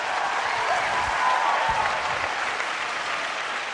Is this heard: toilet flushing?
no